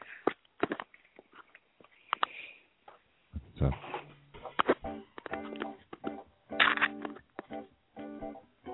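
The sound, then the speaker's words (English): Small metallic clinks and rattles of jewelry, including necklaces, being taken off and hung up, with sharp taps and jingling bursts scattered irregularly, and a brief spoken word near the start. “No, I'm taking off all my jewelry and I'm all loud.”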